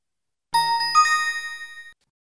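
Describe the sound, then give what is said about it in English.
A few chimes of Big Ben, the 157-year-old clock bell of the Houses of Parliament in London, UK, struck in quick succession, bright and ringing with a shimmering tail, heard alone before the sound cuts off abruptly. “If you've ever visited London, it's likely that you've heard the sounds of Big Ben, the 157-year-old clock bell of the UK's Houses of Parliament.”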